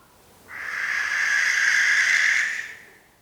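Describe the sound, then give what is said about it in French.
A single long, harsh barn owl screech, a rasping hiss-like shriek lasting about two seconds, loud, rising in quickly and fading out, with no talking. “L'effraie des clochers.”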